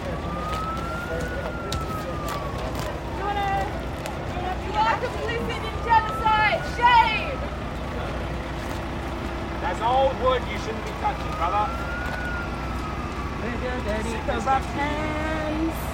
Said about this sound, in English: Oh, here comes the fire truck! Here comes the fire truck!